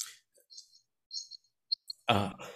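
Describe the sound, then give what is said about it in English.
A few brief, high-pitched chirps from a real cricket come in scattered bursts over quiet, then a short rough throat-clearing or cough cuts in at the end. “Is that an actual cricket? Did I actually hear a cricket? That was a real cricket.”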